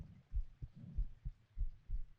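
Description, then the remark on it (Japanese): A steady, pounding heartbeat heard with an ear against a person's chest, deep low thumps repeating in a regular rhythm, each beat a soft doubled pulse, muffled and intimate with no voices over it. “心臓バクバク鳴ってて心地よくないんじゃないの？”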